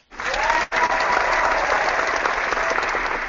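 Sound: applause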